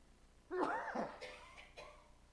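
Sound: sneeze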